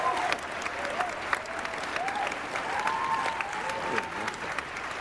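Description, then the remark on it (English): A crowd claps steadily for several seconds, a dense, even wash of applause with faint voices and cheers mixed in beneath it. “I think it deserves another round of applause.”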